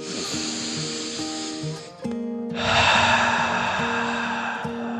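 A long, airy breath drawn in, a brief pause, then a fuller, louder breath pushed out, over a soft sustained low tone.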